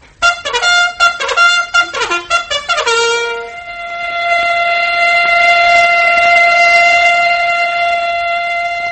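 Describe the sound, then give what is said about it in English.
A bugle plays a quick run of bright brassy notes, stepping up and down in pitch, then a factory whistle takes over with a loud, steady, sustained blast that holds to the end. “Yes, the bugle call and the factory whistle are saying, wake up, America.”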